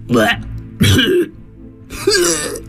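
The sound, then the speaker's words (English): Three loud retching hacks as the Phoenix Taco, a story creature, coughs up not a hairball but a little golden globe, the chewed-up sun; each a harsh, gravelly burst separated by short pauses, likely performed by a human voice. “Can't you see the poor thing's coughing up a hairball?”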